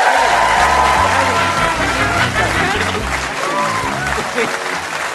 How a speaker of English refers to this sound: So will you please give a massive round of applause to my guest, Sarah Milligan, ladies and gentlemen.